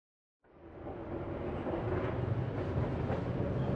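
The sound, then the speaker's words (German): Steady rumbling ride inside a subway train, a dense low roar of wheels and motor that fades in after a moment of silence and holds loud throughout, with no voices. “Sie sitzen in der U-Bahn und hören, wie sich ein Mann und eine Frau hinter ihnen unterhalten.”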